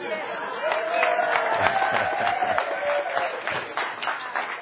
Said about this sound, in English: I'm really proud of you guys. Yeah, a few. Where's the big applause there?